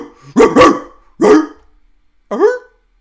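Four loud dog barks, apparently a person's voice imitating them, given as a shout-out to a dog named Alfie: a quick double bark, a single one, then a final rising yelp after a short pause, with no other sound around them.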